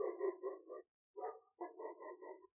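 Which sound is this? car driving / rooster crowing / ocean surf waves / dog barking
dog barking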